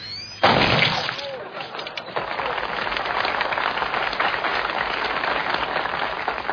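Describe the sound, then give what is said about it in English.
A gin and tonic is mixed: a sudden clatter of ice dropping into a glass, then a steady fizzing pour that hisses on for several seconds. No one speaks. “Glass. Ice. Gin. Tonic. A squeeze of lime.”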